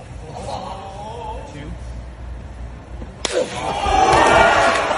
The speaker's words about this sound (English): Here, listen to the authority of one of these slaps.